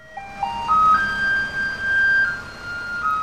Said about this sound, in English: Now, that is a musical garbage truck in Taiwan, a Pied Piper of recycling.